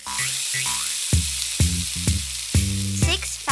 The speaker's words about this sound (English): Sausages sizzling in a pan. Six fat sausages sizzling in a pan. One went pop and the other went bang. There were four fat sausages sizzling in a pan.